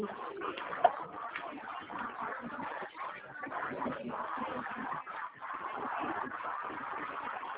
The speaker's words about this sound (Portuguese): Foi só passarinho.